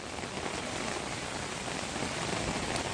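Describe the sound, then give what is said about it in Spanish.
Steady rain falling in the Levante region of Spain during flooding, a dense continuous hiss of drops spread evenly across the whole stretch, moderately loud with no voices or other sounds. “Bueno, el caso es que sigue lloviendo.”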